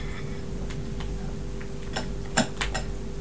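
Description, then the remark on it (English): Crisped rice cereal crackles in milk, giving irregular, sharp little ticks and pops over a low steady hum, with a brief cluster of louder snaps toward the end. “Let's put some fresh ones in the milk and then we'll go. Snap, crackle, pop.”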